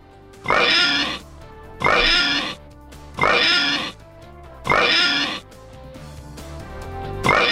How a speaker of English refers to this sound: Yeah. 5 oinks. Had to be it.